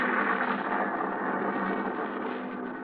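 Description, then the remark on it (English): A thunderstorm sound effect: a steady, dense roar of rain and wind holding at an even loudness throughout, with no sharp thunderclap standing out and no voices. “Now, another storm.”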